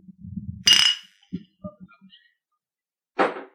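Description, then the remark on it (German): Glasses clink together in a toast, one bright ringing tap near the start, then a second sharp clink a few seconds later, with a low murmur of voices at the beginning. “Wir wollen mir eigentlich mal anstoßen. Komm, wir stoßen mal an.”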